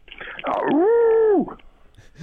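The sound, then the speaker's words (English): A person imitates a wolf howl: one loud vocal cry that swoops upward, holds a steady pitch for under a second, then drops off abruptly. “I know you're always very good with that wolf howl. Can you wrap it up?”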